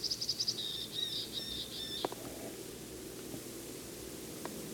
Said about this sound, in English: Just flew to another tree. Temperature's about 35 to 40. Sky is clear. Same bird and same tree. It's high up.